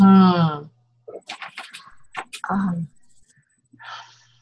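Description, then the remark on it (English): Someone clears their throat with a voiced, rasping rumble, then several short breathy bursts and snorts. A brief voiced noise comes near the end. “You're clearing my throat here.”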